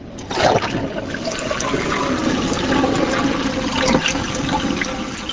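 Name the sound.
low-flow toilet flushing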